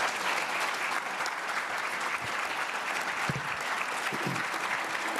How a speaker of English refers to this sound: Let's give Brett another round of applause.